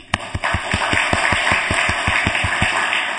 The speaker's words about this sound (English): So it is stated in front of Vishnu Vigrahas, if anybody claps, can you all clap?